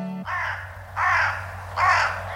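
Three loud, raspy crow caws ring out, evenly spaced about a second apart, over a faint steady low hum with no talking.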